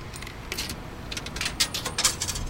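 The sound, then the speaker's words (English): A 25-cent coin is inserted into a transit fare pay station at the Wilkinsburg station, making a series of small metallic clinks and rattles, bunched into short bursts over a low background hum, with no talking; the machine does not take it. “And they should accept credit cards, paper money, and coins. 25 cents.”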